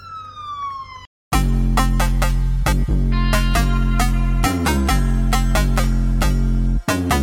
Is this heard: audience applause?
no